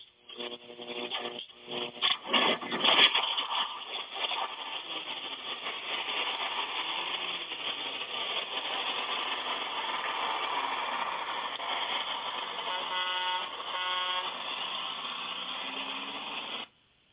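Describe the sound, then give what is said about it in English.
The engine of the Six Eyes Gospel Bus, the old gospel bus, sputters to life and settles into a steady, rumbling idle that runs throughout, with a few horn honks near the start and no one talking. “who do we got on the old gospel bus tonight?”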